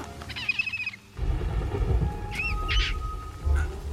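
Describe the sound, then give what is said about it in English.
A bird calls with a bright warbling chirp, then pauses before a couple of rising, squawking cries. A deep, rumbling roar fills the background throughout the later calls. “Well, what's this? Another one of your little bird tricks?”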